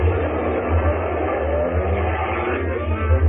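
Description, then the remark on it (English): A truck engine revs loudly with a heavy low rumble, holding steady then surging near the end as it speeds off down the street with men aboard, continuous with some rattling. “They jumped into a truck that was standing outside. A few other men boarded the back of the truck. They sped off down the street.”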